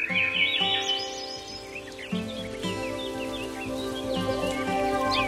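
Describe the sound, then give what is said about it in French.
Small passerine songbirds chirp and trill in quick, overlapping bursts, clear, over a steady sustained musical background that runs throughout. “Et le premier épisode met particulièrement l'accent sur les passereaux, un groupe d'oiseaux menacés.”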